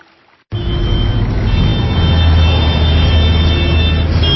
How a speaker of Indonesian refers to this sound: Aduh, macet banget sih. Padahal kan weekend. Iyalah, namanya juga Jakarta.